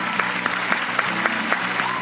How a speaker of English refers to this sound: He's fun. Big round of applause.